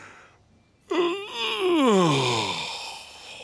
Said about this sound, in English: When you yawn, it makes me want to yawn, too.